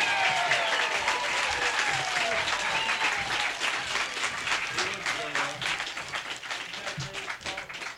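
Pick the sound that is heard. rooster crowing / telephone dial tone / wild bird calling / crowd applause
crowd applause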